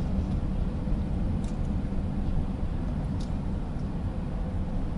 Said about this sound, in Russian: Не водил машину 3 недели. Вроде ничего так. Нормально, едем, навыки не ушли.